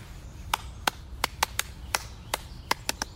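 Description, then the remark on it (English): A series of about eleven sharp, crisp hand claps at an uneven, unhurried pace over a low steady rumble, with no voices. “can you clap? Clap.”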